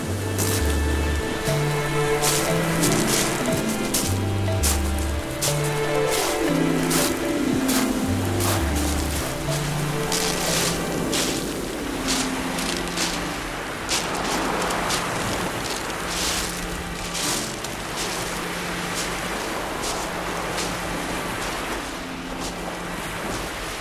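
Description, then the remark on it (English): A steady wash of surf and wind on Brighton seafront roars continuously throughout, with some low, stepping tonal notes drifting underneath, like music carried on the breeze. No voices. “We wandered down to Brighton seafront to hear what was going on.”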